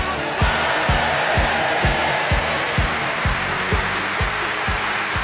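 A crowd applauds loudly and continuously, a dense wash of clapping over a steady, evenly spaced low thumping beat, with no one speaking.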